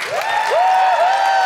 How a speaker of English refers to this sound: Let us have a huge round of applause for ….